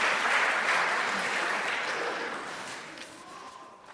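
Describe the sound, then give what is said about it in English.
An audience applauds a team together, a dense, steady wash of many hands clapping that gradually fades and thins toward the end, with faint voices in the background. “Give my team a round of applause.”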